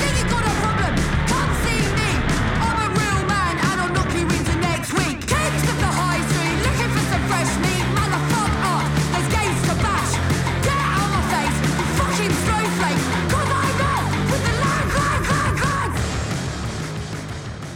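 Loud, dense punk rock with distorted guitars, pounding drums and shouted vocals, playing continuously at full intensity before easing slightly at the very end.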